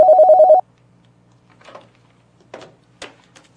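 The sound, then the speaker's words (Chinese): A telephone rings once with an incoming call in a loud, rapidly trilling electronic burst lasting about half a second, followed by quiet rustling and a few soft clicks. “先这样，我这儿来电话。”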